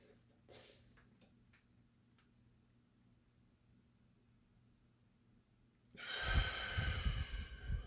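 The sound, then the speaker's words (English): After a long near-silent stretch with a few faint ticks, one loud breath rushes out near the end, heavy and airy, like a slow deliberate exhale during a yoga pranayama breathing exercise. “Let's try this one more time. In and out, breathing. Pranayama, the heart of yoga.”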